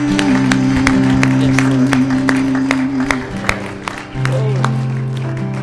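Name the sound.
audience applauding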